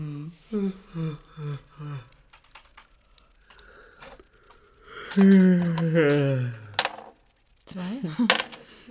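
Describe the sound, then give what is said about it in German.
A steady, high-pitched cricket, bought at a pet shop, chirps continuously in fast, even pulses on a boat, while people talk over it. “Sag mal, wo hast denn du die blöde Grille her?”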